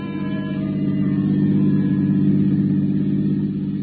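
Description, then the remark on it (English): A car engine hums loud in a steady, low rumbling drone, swelling slightly in the middle as the vehicle pulls away, with no voices present. “I shut the door, headed once more for my car. The lady of the house was waiting. We took off.”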